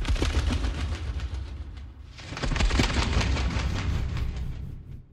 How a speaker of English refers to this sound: No, it was a sheet of toilet paper. Wow. Okay, yeah. Here are the moth wings in the trailer for Clarice.